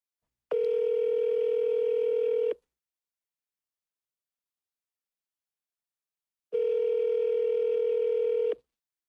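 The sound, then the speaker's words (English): A phone call to an Air Force squadron rings back twice, each steady electronic buzz-tone lasting about two seconds with a long silent gap between, clear with no one picking up. “see if they're going to answer the dang phone”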